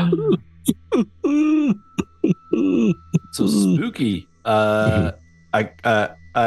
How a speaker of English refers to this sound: There's a chilly air, and as you move through, you hear an echoing sound of sobbing, maybe weeping, almost from everywhere at once in this room.